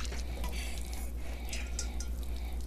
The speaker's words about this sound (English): The recipe said to pour gently onto a sheet and let it cool. So here it goes, all over my bed.